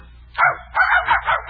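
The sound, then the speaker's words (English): A part-pointer, part-setter dog barks in a kitchen: one sharp bark, a short pause, then a quick run of three or four more in a row, loud and clear with no one talking. “Gladys is a very smart dog.”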